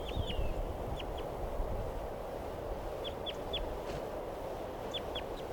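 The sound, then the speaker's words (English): A wild bird flutters around and goes down again, giving short, high, downward chirps in small clusters of two or three over a steady, loud rushing background noise, with no talking. “Some pointed at the wild bird.”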